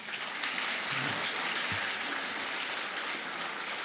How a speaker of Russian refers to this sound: Ваши аплодисменты.